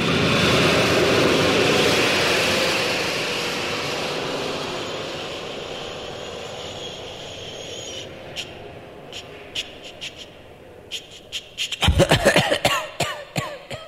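A steady, loud rocket engine roar fades and gives way to irregular sputtering pops and bursts as something breaks in the reactor, ending in a cluster of sharp, coughing blasts.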